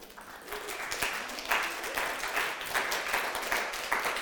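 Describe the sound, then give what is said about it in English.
An audience applauds steadily, a dense patter of many hands clapping at moderate volume throughout, with a faint voice or two mixed underneath. “Do we give him a round of applause?”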